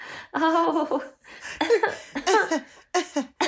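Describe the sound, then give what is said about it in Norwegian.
A fairly loud run of short, throaty coughs, about four or five voiced bursts with brief pauses between, as someone tries to clear their throat. “Og nå må jeg hoste litt, så det jo litt av et skue.”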